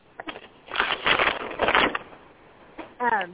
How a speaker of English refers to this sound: I can't hear you. It sounds like paper. Somebody shuffling paper, yeah. I could hear that.